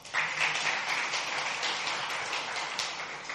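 An audience claps together in a steady, dense wash of many hands, sustained at an even moderate level for a few seconds with no talking over it.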